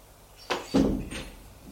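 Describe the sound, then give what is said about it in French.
A bedroom door opens: a sharp latch click, then a heavier thudding creak of the door swinging, and a softer click trailing off, all fairly loud with no voices. “Ouvre la porte, éclaire et le fait entrer.”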